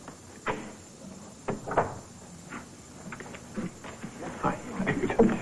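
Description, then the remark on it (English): A door opens with a few sharp clunks and rattles spread over several seconds, with faint muffled voices and shuffling in the background. “You just open the door.”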